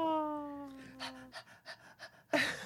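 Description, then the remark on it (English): A voice imitates a St. Bernard dog panting: a high, drawn-out whine slides downward, then quick breathy pants follow in a rapid run of about six, ending in a louder huff. “it's the St. Bernard is standing right next to you, …. Okay. Looking up at you, panting.”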